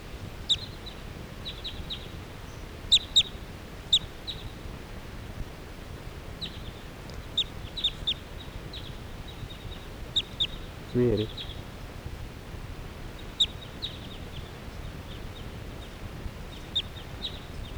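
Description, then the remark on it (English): A flock of crossbills flying around calls overhead in short, high, scattered chirps, sometimes in quick pairs, over a steady low rumbling background with a brief whooshing burst midway. “And now the birds are just generally flying in the air around here.”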